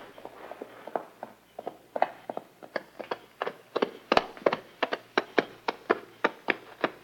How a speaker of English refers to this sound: Wait. Somebody coming on a horse.